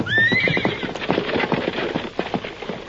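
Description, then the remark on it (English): A horse whinnies with a high, rising call at the start, while horses' hooves clip-clop in a steady rhythm throughout, fairly loud against a bit of background noise, as thirsty horses are brought to water to drink. “Ain't you got no better sense than to let them horses drink first?”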